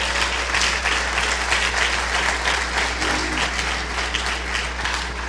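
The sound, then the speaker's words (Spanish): A church audience applauds for the Lord, a dense wash of many hands clapping together, loud and sustained throughout with a low steady hum underneath. “Si va a aplaudir, que sea para el Señor con todo.”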